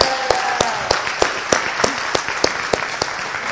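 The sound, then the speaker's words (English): An audience applauds a volunteer, a steady wash of many hands clapping with sharper individual claps standing out at a brisk, fairly regular pace, moderately loud throughout with no one speaking. “Okay, so there she is, and will you give her a hand?”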